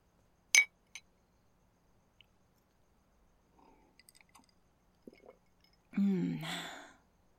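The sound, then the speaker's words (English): Glasses clink together in a toast, one sharp bright chime, then a lighter tap a moment later, followed by quiet small noises and a brief breathy gulp near the end. “So, cheers to new friends.”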